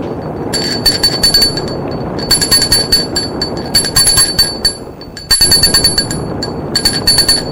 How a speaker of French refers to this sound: Puis, la sonnerie de la porte d'entrée.